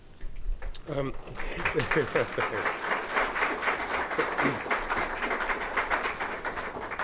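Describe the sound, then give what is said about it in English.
An audience claps steadily for several seconds, a dense, even patter of many hands at a constant loud level, with a few voices briefly audible near the start. “We don't usually allow applause, but today's a special day.”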